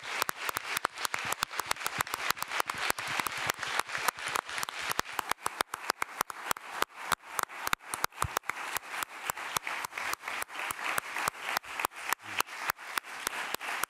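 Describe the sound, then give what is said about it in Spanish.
Sustained applause from an audience at the close of a press conference at the 2020 San Sebastián Festival, for Donostia award winner Mortensen: dense overlapping claps forming a steady, bright rattle that holds at an even level for the whole stretch, with no voices. “Y acabo aquí la rueda de prensa y pido un fuerte aplauso para nuestro premio Donosti.”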